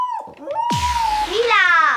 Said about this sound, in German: Ich glaube, das ist kein Hund. Doch, das ist ein Hund. Nein! Das ist ein Hund.